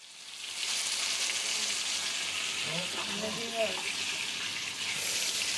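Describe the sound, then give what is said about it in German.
Heavy downpour rain patters steadily on a tent, heard from inside the tent, in a dense, unbroken hiss that holds at even loudness throughout, with a brief murmuring voice partway through. “Ja, da habe ich jetzt schon Mitgefühl, das ist jemand, der im Zelt ist und es prasselt mit dem kompletten Platzregen und du kommst aus deinem Zelt nicht raus vor lauter Wasser.”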